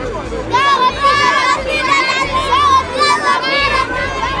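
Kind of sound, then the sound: crowd, children shouting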